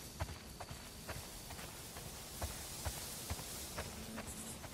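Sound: horse hooves clip-clopping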